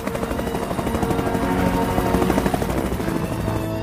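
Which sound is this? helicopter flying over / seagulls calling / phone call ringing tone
helicopter flying over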